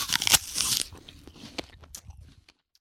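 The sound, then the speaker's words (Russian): A loud, crisp crunch of a snowman biting off its own carrot nose in hard frost, followed by a few quieter crackling chews that fade out over a couple of seconds. “Снеговик в большой мороз откусил себе сам нос.”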